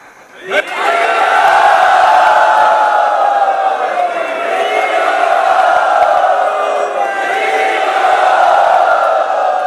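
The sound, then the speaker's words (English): A large crowd erupts into a loud, sustained roar of cheering and applause, swelling suddenly after a brief quiet moment and holding steady at full volume to the end. “And there was a great roar of applause by everyone in the audience.”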